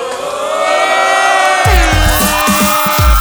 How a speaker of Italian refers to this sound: Fatemi sentire tutti insieme, grandi e piccini, l'urlo di Napoli. 1, 2, 3.